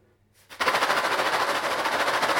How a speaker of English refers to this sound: Do you see the noisy balloon? Where's the balloon? Is it over there? The noisy balloon? Oh, what's that noise? Noisy balloon.